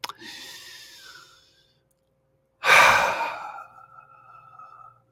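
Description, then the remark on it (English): Two slow, deep breaths taken deliberately by a person, with a short silent pause between them; the second breath is louder and more forceful, tapering off gradually. “The interesting thing is the pacemaker cells, now notice I'm intentionally breathing, for our lungs are not in our lungs.”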